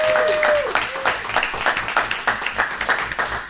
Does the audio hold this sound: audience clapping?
yes